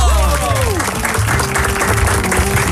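An audience applauds loudly and steadily for a few seconds, a dense wash of clapping, with a brief descending musical tone and a sustained note sounding underneath.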